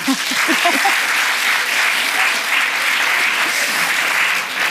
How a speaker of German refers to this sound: Wir können ja mal kurz testen, wer hat Gut gegen Nordwind gelesen? Bitte einmal klatschen. Alle.